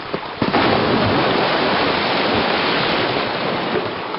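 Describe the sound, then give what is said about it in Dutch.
A loud, dense roar of floodwater rushing through a breached narrow dike surges in after a brief quieter moment and pours on steadily, overwhelming, with no voices; the water's force collapses a large part of the dike. “Het water had zo'n kracht dat de smalle dijk inderdaad voor een groot gedeelte instortte.”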